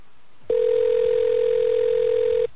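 telephone line ringing tone

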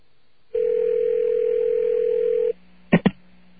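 telephone dial tone

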